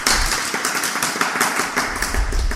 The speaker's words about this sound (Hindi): अच्छी बात है, तालियां बजाओ।